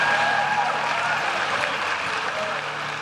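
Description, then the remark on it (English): A large crowd at a Donald Trump event in Iowa in early 2015 roars and applauds continuously, a dense, loud wash of cheering voices and clapping with a few whistles cutting through, holding steady for the whole stretch. “Just like Nunberg promised, the crowd loves it.”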